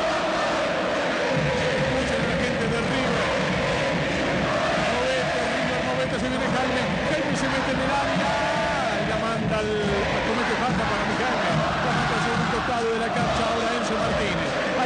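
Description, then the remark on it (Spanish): A large football stadium crowd at a River versus Gimnasia match, with River losing 1-0, roars continuously as the fans lose patience: a dense wall of shouting and jeering voices that stays loud throughout, with surges of chanting and whistles rising above the din. “La gente pierde la paciencia y los estribos. Ustedes me quieren decir que este río no se parece a aquel otro. Escuchen a la gente.”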